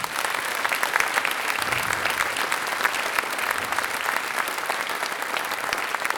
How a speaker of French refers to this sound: Donc si on peut les applaudir très fort. Merci.